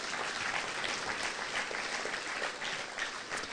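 Steady applause from a crowd fills the whole stretch, a dense wash of many hands clapping at even loudness with no voices standing out.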